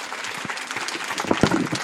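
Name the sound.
audience applause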